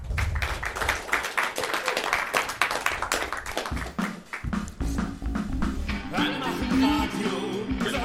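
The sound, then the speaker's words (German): An audience breaks into loud, dense applause, a steady wash of many hands clapping that carries on for several seconds, with some voices or cheering rising through it toward the end. “In diesem Sinne, herzlich willkommen und einen warmen Applaus für die Podcaster.”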